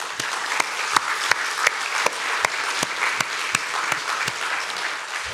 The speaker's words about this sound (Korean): 참 그래서 오늘 첫째로 심한 위로의 말씀을 드립니다. 우리 선생님들 계시면 한번 박수 한번 주실까요?